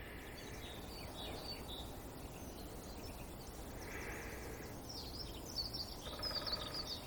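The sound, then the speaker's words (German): Faint, quick melodic bird song twitters in the background over a steady outdoor hiss, the high chirps growing a little busier toward the end. “Ich hoffe, ihr könnt es wahrnehmen im Hintergrund. Es ist so leicht fisselig, melodisch, schnell.”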